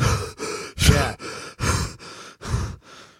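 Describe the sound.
A voice imitates someone gasping for breath after gulping water: eight rapid, loud, breathy pants in a steady rhythm, with no talking.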